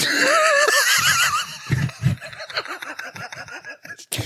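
A horse whinnies loudly, its neigh rising and wavering for a second or two, then trailing into snorting, sputtering breaths.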